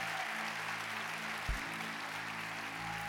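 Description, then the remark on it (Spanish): An audience applauds steadily for about three seconds in praise of Jesus Christ, a dense, even wash of clapping with no pauses, while low sustained keyboard tones hum underneath and a brief thump lands midway. “Todos esos aplausos y toda esa ovación es para el único que reina por todos los siglos.”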